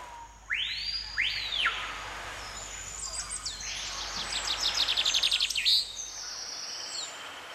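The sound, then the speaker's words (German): Large tropical birds perched on big palm fronds on an island sing with no talking: two sweeping whistled notes, then a long run of quick, bright chirping trills, clear over a faint background hum. “Auf den großen Palmwedeln sitzen große tropische Vögel, die ihre fremden Lieder singen.”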